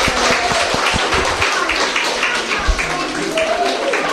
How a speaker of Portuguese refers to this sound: Pois moitas gracias a todos. Dámoslle un aplauso aos compañeiros. Moitas gracias.